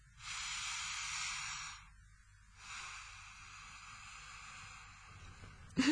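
An airy breath drawn in slowly and at length, a soft steady hiss, preceded by a shorter breath and a brief pause, with no talking.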